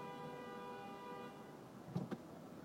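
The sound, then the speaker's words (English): A car horn on a street in San Francisco blares in one long, steady blast that fades out, then two short, sharp honks follow in quick succession, with no talking. “Really hit that horn.”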